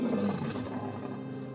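A lion roars once, a loud, deep, rumbling growl that starts strong and slowly trails off over under two seconds, with no voices present.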